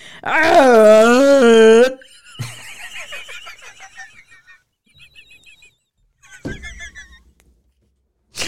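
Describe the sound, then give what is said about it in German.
As a dare in a truth-or-dare game, a person imitates a rutting red deer stag with one loud, wavering, drawn-out bellow lasting about two seconds, followed by quieter scattered vocal noises and brief pauses. “Imitiere einen brunftigen Hirsch.”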